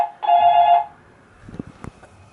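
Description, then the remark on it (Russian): A telephone rings with one short, loud electronic tone burst for an incoming call placed from another phone to the same number, then fades into faint clicks and light handling noises. No one speaks. “Хочу позвонить с другого телефона на этот же номер.”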